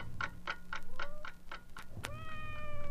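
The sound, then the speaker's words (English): A steady clock ticks at night while everyone is asleep for a couple of seconds, then a single long, drawn-out meow from a cat outside looking for his breakfast rises clearly over the quiet background, distinct. “Outside, a cat is already up and looking for his breakfast.”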